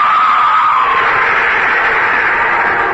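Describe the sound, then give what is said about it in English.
A harsh, piercing creature scream holds loud and unbroken for about three seconds, a shrill rasping shriek with no voices over it. “It pushed me, and its shattering built up into a scream, and I was sure that I was going mad.”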